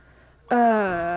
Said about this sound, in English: Yes, but don't open the door too loudly.